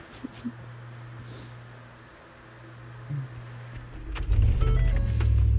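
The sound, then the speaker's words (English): Muffled interior hum of a car cabin in Los Angeles during pouring rain, with a steady low drone, a few small clicks and shuffles, then a louder rumble and rushing noise swelling near the end as if the engine starts or rain intensifies. “Okay, we're in the car.”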